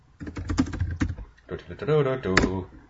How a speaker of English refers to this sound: Your typing is loud. Yes, it is. I smack the hell of my keyboard.